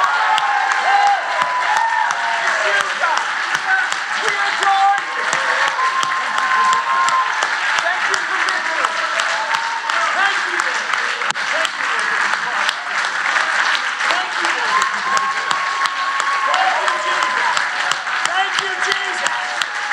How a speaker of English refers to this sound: So I'm going to ask you, would you, for these next few moments, clap your hands, all you people, and shout to God because he gives you the victory. Come on, praise him with me.